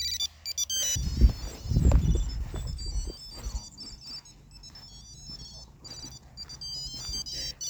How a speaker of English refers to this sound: It's a tracker that attaches to your disc. Yeah, and then this is the sound that it makes here once it connects.